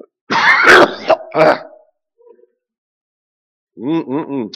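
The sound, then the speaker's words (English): A loud, harsh throat clearing and a couple of rough coughs during a sermon, done to cough out a demon, followed by a short pause and then a person speaking briefly. “I'm going to cough that out in the name of Jesus.”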